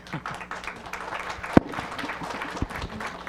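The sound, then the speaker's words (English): An audience applauds two candidates at a candidates' forum, steadily, a dense patter of many hands clapping at moderate volume, with one sharp louder clap standing out partway through. “I think we owe you both a round of applause.”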